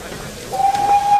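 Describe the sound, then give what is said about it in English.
A steam train whistle sounds, one loud, steady, sustained tone that begins partway through and holds to the end over a faint hissing background. “Trains!”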